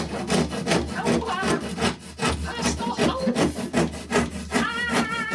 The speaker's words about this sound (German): Ein Beispiel wäre die zersägte Jungfrau und das klingt dann so.